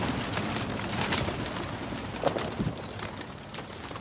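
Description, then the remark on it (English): Pigeons coo softly amid a busy outdoor wash of noise, with occasional brief flutters and bird calls; no one speaks. The pigeons are at a scruffy rooftop coop in Beijing, being let out in the morning for their twice-daily flight. “He keeps pigeons on a rather scruffy coop.”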